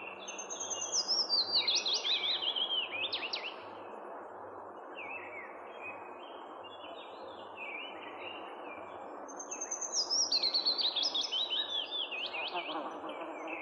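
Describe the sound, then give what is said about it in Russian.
Two sweet, descending willow warbler song phrases ring out clearly several seconds apart, each trickling down and fading softly, over a steady low outdoor hum with faint insect buzzing. “Песня «Веснички» имеет много общего с песней «Зяблик». Но «Зяблик» заканчивает свою песню резким росчерком, а «Весничка» — нежными замирающими переливами.”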